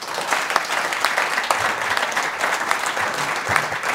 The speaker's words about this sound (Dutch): Dames en heren, ik vraag uw applaus voor Renate Dorrestein.